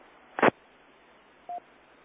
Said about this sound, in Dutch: Ja, met een piepje ertussen, goedemorgen.